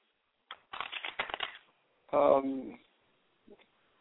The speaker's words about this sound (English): I think while I'm shuffling the cards, the Posse of Angels want to ask you, do you absolutely adore and love what you're doing now for a job?